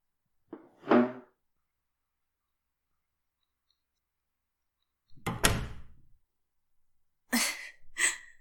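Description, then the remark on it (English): A door shuts with a solid thud, preceded by a brief earlier knock and followed by a couple of sharper clacks, like a latch or handle settling. No one speaks. “Go shut the door for me and we're going to talk Freud.”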